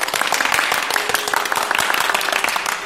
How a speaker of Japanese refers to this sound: いやいや、これはちょっとラジオな長岡史上最大の拍手。この素晴らしい響きが皆さん聞いていただけましたでしょうか。何を隠そう、私たち今幸町にあります長岡市立劇場大ホールのステージ上で収録させていただいているんです。